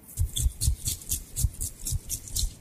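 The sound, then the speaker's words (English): A can of Lynx 2-in-1 shower and shave shaken briskly with the dominant arm, its rattle and dull thump repeating in a steady, fast rhythm of about four strokes per second. No voices. “Shake it well with your dominant arm.”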